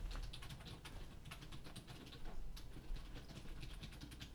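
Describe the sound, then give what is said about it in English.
Rapid, continuous clicking of keys on a computer keyboard, a busy stream of keystrokes over a low steady hum, with no voices. “So many typing.”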